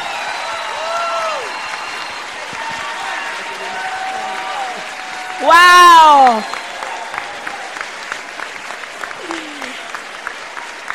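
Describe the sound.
Steady audience applause fills the whole stretch, dense and continuous, while a voice cries out loudly midway and scattered shouts rise over the clapping.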